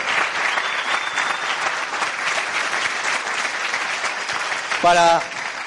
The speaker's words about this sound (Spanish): Por favor, fuerte aplauso para los diamantes de Argentina.